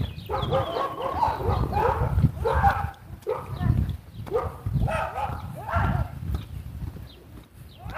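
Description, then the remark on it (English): A little dachshund, walked by a man, barks in quick, repeated bursts at dogs behind a fence, which answer, the yapping overlapping almost continuously over a low outdoor rumble on a warm, sunny 54-degree day. “Dachshund's having words with the dogs behind the fence.”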